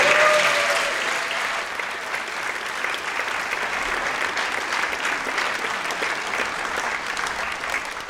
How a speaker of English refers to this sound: So you can stand up and have people cheer at you, please.